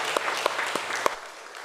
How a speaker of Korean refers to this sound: 하나님께 영광의 박수로 화답하시겠습니다.